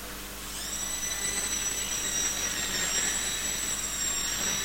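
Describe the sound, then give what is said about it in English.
A toy airplane's high, steady electric whine starts after a brief moment and holds for several seconds over a soft hiss, moderately loud, with no one speaking. “Where are you going by plane?”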